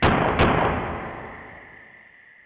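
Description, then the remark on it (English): Two loud gunshots in quick succession, fired at an intruder trying to come through a door, the second close behind the first, followed by a long echoing tail that fades out over a couple of seconds. No one speaks. “Gunshots to pussy hole trying to come through that door.”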